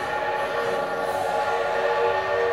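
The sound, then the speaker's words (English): The great Corliss steam engine, which runs the machinery of an 1876 fair and is operated by Emma Allison of Ohio, runs steadily, a continuous mechanical drone with layered humming tones and a faint hiss, holding an even loudness throughout with no voices. “That's the great Corliss steam engine that runs this fair's machinery.”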